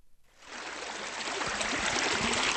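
The clear water of the Wazani, a small creek in southeastern Lebanon, rushes steadily from an underground spring, a broad hiss of flowing water with some low gurgles, fading in after a brief quiet start and holding at a fairly loud, constant level.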